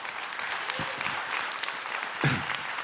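A crowd applauds on cue, a steady, dense wash of clapping at a fairly constant level, with a brief louder burst near the end and no voices standing out.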